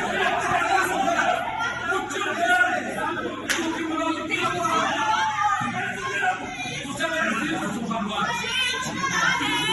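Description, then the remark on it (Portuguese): A single sharp slap cracks out amid a noisy crowd, with many people talking and chattering loudly around it the whole time. “Vocês vão ouvir o barulho do tapa logo no início.”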